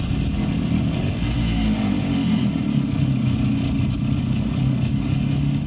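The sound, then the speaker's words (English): A Harley-Davidson 165cc two-stroke single-cylinder motorcycle engine, a type made from the 1940s into the mid-1960s, runs steadily, a continuous buzzing, rattly drone with slight rhythmic fluctuation and no voices. “Harley-Davidson also made a single-cylinder engine that was a two-stroke engine”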